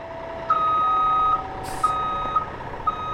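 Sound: truck reversing beeps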